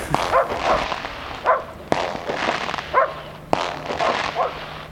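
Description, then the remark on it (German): Several police dogs bark repeatedly in short, sharp bursts amid a noisy outdoor crowd scene, with sudden loud bangs like firecrackers cracking between the barks. “Jetzt haben sie noch Hunde dazu geholt.”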